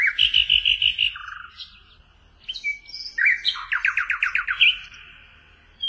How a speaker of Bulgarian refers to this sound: Славейче, нашият милостив император иска да чуе твоята песен.